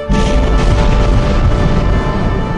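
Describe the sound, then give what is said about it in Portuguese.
A loud, continuous rumble of thunder, deep and heavy in the low end, rolling steadily for a couple of seconds without fading, with no voices. “Moisés falou e Deus respondeu no barulho do trovão.”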